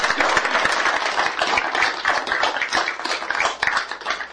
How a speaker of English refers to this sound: We thank you for all your time here, and we thank you for all your efforts, and I'd like to give him a round of applause. He did a great job.